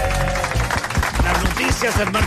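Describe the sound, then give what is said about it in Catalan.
Closing applause from the audience of the show La Competència: dense, steady clapping at an even, fairly loud level for a couple of seconds, with a faint musical tone humming underneath. “I aprofitem, com sempre, l'aplaudiment final de La Competència per donar la benvinguda a Marc Giró.”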